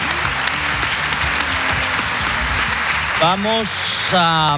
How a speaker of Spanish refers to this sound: Como me gusta mucho el comandante Lara, si le dan un gran aplauso saldrá dentro de poco por aquí, por esta puerta. Así que un aplauso para el comandante Lara